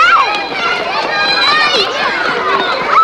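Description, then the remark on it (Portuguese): Children at school recess shout and squeal over one another while running back and forth, a busy, steady din with the patter of running feet beneath the high-pitched voices. “Na hora do recreio, então, com aquela algazarra, a criança correndo pra lá e pra cá, o resultado pode ser, ó, um tombo, um escorregão, ó, e dores pelo corpo.”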